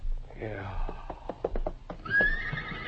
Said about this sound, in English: What's the matter with the horses? Why? They're restless about something. Yeah. Something got them nervous.